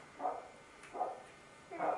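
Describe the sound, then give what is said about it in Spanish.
A dog named Andros barks three times at a steady, unhurried pace, each bark short and mid-pitched, at moderate volume, with quiet pauses between them. “Ladrando.”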